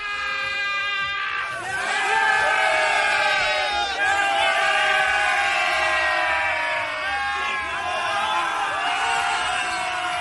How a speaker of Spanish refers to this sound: Gritos y también música en el vestuario, en el camerino de los Reds. Aquí bailando todos.